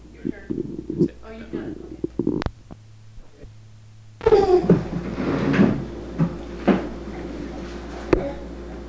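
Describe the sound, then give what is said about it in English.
Cabinet drawers slide and bang shut, with a sharp clack early on and then a longer stretch of rumbling slides and knocks, with faint voices in the background. “the cabinet drawers. They said they're yelling at me.”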